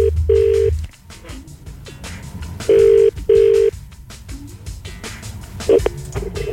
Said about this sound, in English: So if you called up on Friday, then make sure you turn the volume up on your phone. We're about to give the lucky winner a ring-a-ding-ding.